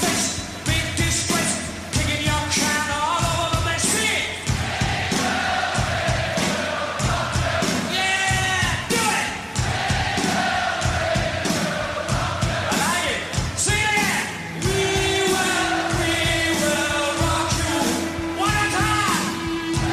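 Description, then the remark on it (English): Loud, dense live rock music with a roaring crowd, voices yelling and shouting over a driving, distorted band, the whole mix packed and continuous throughout. “compare it to this bit of rock music. Notice the difference, for example, with how the crowd interacts, how the people present themselves, even how the music sounds, all these type of things.”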